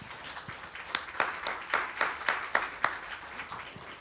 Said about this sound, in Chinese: 来给我一个 很大的一个掌声吧，拍掌，一起来拍掌。